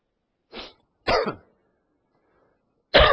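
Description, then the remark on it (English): Three separate bursts of coughing and throat clearing from someone with a frog in the throat, fairly loud, with short quiet gaps between them; the last one starts sharply at the end. No talking. “I have that same goofy frog in my throat this morning, or tonight, as I did Sunday, so sorry for the hacking and coughing.”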